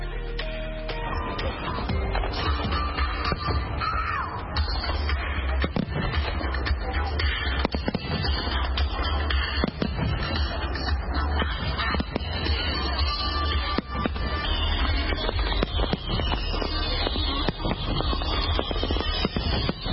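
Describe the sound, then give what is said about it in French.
Fireworks go off over the National Mall in Washington DC in a dense, constant barrage, sharp crackles and bangs overlapping for the whole stretch, with the murmur of a crowd underneath. “Toujours à Washington DC, à partir de 21h et pendant environ 17 minutes, depuis le National Mall, les Américains ont eu droit à des grands feux d'artifice.”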